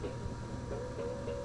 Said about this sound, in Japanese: ダンプ。